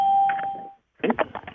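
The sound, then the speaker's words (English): A single electronic ding chime on a conference call phone line, marking a caller joining, rings out as a steady mid-pitched tone, fading after under a second. A short silence follows, then a brief burst of muffled, voice-like sound. “So I'm going to turn off the dings and mute the phone lines.”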